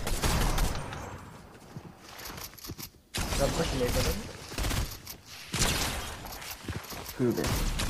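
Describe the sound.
Rapid bursts of video game gunfire crackle in a dense, loud barrage, with overlapping shots and mechanical clatter, briefly cutting out midway before resuming, while voices talk underneath.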